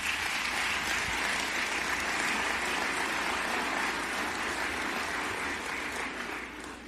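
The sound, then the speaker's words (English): A National Urban League audience applauds its affiliates' work with steady, dense clapping that holds at an even loudness for several seconds before beginning to taper off toward the end. “Urban League affiliates, I congratulate your incredible work during that very difficult time in American history, and you deserve another applause for that work.”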